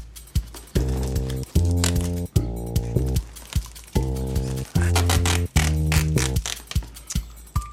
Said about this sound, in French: Il tire sur l'adhésif pour en déchirer un dernier bout.